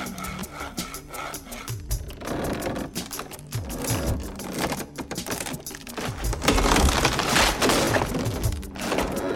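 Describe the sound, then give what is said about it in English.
A saw rasps through material in quick, rhythmic back-and-forth strokes, cutting a slot from inside the belly of a Greco-Asian horse in storage, with white dust falling to the floor; fairly loud, growing a little more intense toward the end, with no voices. “The dust falls from a slot being made by a saw from inside the belly of the horse.”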